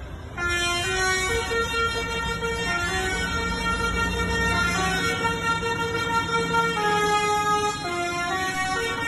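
A loud musical vehicle horn plays a stepped, cheerful children's tune, note after note without pause, over a low engine rumble. No one speaks.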